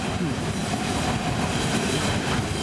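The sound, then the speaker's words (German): A long train rumbles steadily past, a continuous loud roar of wheels and rail noise with faint clattering throughout, no letup across the stretch. “Langer Zug.”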